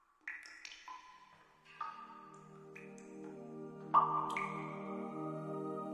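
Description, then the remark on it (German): Sparse water drops fall one by one from a cave ceiling onto stones on the floor, each ringing with a bright, echoing ping that lingers and layers into a soft reverberant hum. “Dafür beginnst du das sanfte Geräusch der Wassertropfen zu hören, die von der Decke der Höhle auf die Steine am Boden fallen.”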